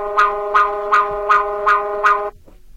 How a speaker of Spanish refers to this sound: ¿Eso cómo? O sea, es a lo que voy. El celular va a sonar como la alerta sísmica normal. ¿Y cuánto dura? Varios segundos.